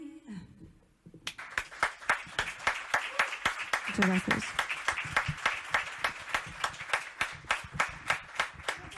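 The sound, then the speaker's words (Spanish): An audience breaks into loud applause after about a second, settling into steady, rhythmic clapping in unison, with a few brief voices heard beneath it. “Ja he demanat un aplaudiment després que aplaudíssiu.”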